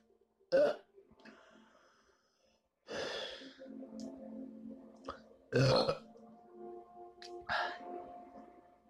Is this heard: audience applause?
no